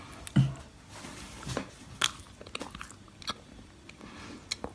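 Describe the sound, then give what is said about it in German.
A woman takes a crisp bite into a Christmas snack, followed by several seconds of irregular crunchy chewing, with small sharp crackles scattered through the quiet and no speech. “Vielleicht kann man sagen, dass du abgebissen hast. Sie hat gerade abgebissen.”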